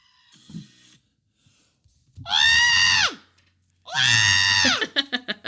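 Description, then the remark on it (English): A person imitates a screaming goat with two long, loud, strained yells, each about a second long, separated by a short pause, followed by a few quick choppy bursts. “That's my impression of the goat.”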